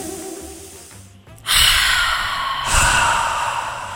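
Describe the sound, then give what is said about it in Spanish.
A long, deep breath: a loud, broad inhale swells up, then a second airy rush follows as it is slowly let out. No one speaks. “primero que nada, una respiración profunda.”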